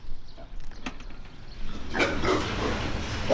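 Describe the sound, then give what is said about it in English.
Pigs weighing about 180 to 190 pounds grunt and snuffle inside a low-roofed hog barn on a farm near Gowrie in central Iowa, quiet at first and then a louder, busier chorus of overlapping grunts over a steady background hum. “Allegor says the pigs inside have another month and a half to reach market weight”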